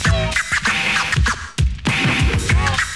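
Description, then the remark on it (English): Rapid turntable record scratching by a DJ, loud, with quick back-and-forth swipes in a choppy rhythm, played alone without any talking. “Record burn.”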